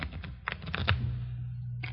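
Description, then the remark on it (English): A newly unwrapped deck of playing cards is shuffled, a quick run of crisp, clicking riffles for about a second, followed by a low steady hum with no voices. “Give him a good shuffle, huh?”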